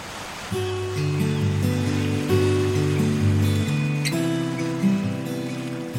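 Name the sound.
rain falling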